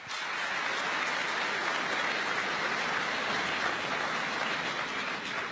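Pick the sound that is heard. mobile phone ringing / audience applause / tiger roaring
audience applause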